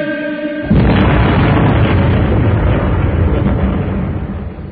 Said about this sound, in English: What was that? A big bang. It certainly was a big bang.